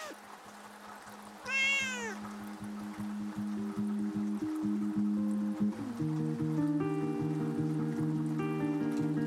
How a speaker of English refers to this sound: What the fuck am I supposed to do with all these cats?